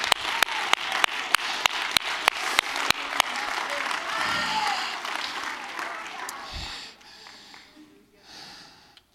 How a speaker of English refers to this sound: If you receive this word, stand to your feet and clap your hands and give God praise right now. Come on.